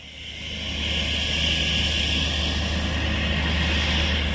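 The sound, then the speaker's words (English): A steady, droning roar of jet engines at the airport in Freetown, the capital, swells in over the first second, then holds at a constant, fairly loud level with a low rumble beneath. No voices. “At the airport in the capital, Freetown, I spot an unfamiliar jet parked on the apron.”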